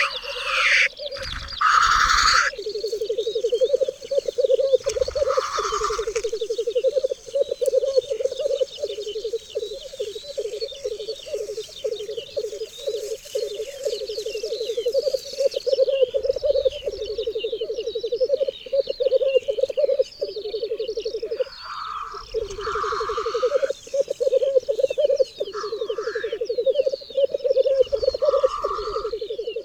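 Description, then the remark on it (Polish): A lekking male bird displaying on its arena gives a bubbling display call that rolls on steadily for the whole clip, a low, continuous cooing burble that sometimes turns into a laugh-like sound, broken now and then by short harsh hissing sneezes. “Czasem bulgotanie przechodzi w dźwięk przypominający śmiech.”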